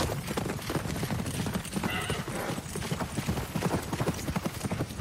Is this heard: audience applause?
no